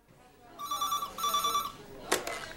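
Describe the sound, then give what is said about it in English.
A telephone rings out on an outgoing call made from a mobile phone: two electronic ring bursts in quick succession, fairly clear, followed by a sharp click like the line being picked up. “You said to phone if I was suffering any emotional or behavioural problems.”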